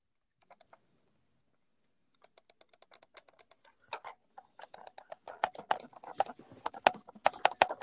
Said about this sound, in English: Mouse ASMR. Keyboard ASMR.